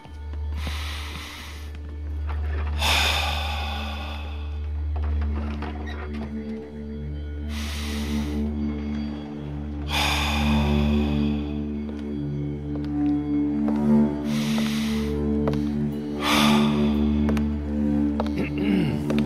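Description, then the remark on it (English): Slow, deep breaths rise and fall every few seconds, each a soft airy rush, over a steady low humming drone that continues throughout. “Continue that deep breathing, and I'll be right back.”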